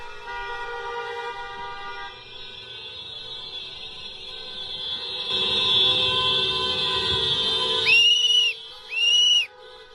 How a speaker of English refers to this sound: There it is. She brought the rape whistle. She's got the rape whistle.